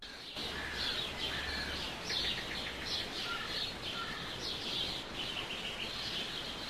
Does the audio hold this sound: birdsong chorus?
yes